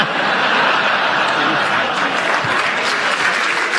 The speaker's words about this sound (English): It was as good as that applause.